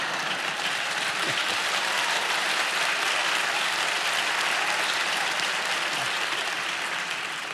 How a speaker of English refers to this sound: There's a pretty weak clap on your part for that point.